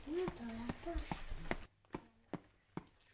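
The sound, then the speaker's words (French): Footsteps climbing the stairs: about eight steady, evenly spaced thumps. A voice talks over the first half, and the last few steps sound alone. “Montons l'escalier.”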